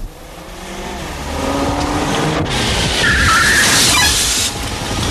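A taxi pulls up with a rising engine and road rumble, then a short, high-pitched squeal of tires or brakes as it slows to a stop. No one speaks.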